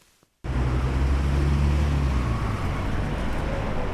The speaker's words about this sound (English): Endless lines of cars are slowly moving through the city centre of Nairobi. Notorious minibuses called matatus are honking loudly, trying to shoulder their way through the traffic jam while thick blue diesel smoke is taking over the air.